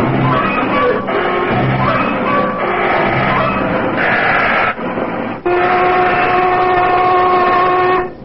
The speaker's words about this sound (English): There's a lunch whistle, Basco. Okay, boys, take 30.